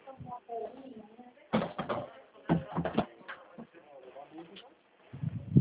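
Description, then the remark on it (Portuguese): A door is closed: a few short thuds and clattering bumps, spaced irregularly, with a final thump, over a bed of faint muffled voices. “Só um instantinho, vou fechar a porta aqui para te escutar”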